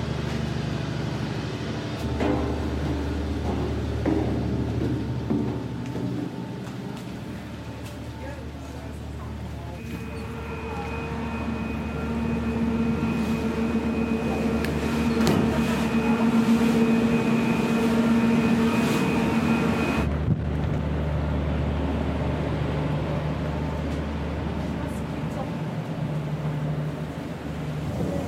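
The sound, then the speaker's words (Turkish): Steady, heavy machinery drone with deep low rumble, vibration and tonal hum of a ship's engine running continuously, heard on board the ship where the machinery turns; a sharper whining tone rises in the middle section before settling back. “Şu anda en çok burada vibrasyon ve makinenin sesi var. Çünkü burada döndüğü için.”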